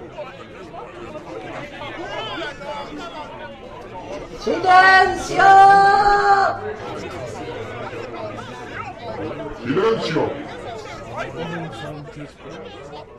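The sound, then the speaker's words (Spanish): A restless crowd that has gathered wanting to hear Jesus murmurs and chatters steadily throughout, while a voice rises above it with two loud, strained shouts midway and another sharp cry near the end. “homenaje, queriendo oír al Maestro, al final terminan creando todos una gran confusión y un rumor que no permite oír nada.”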